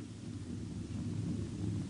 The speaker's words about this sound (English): What is it? A herd of critters. Look, you see the dust? They're coming this way in a stampede.